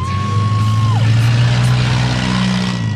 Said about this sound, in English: They line up in formation, gun the engines, and head toward the field of battle. And then it's on.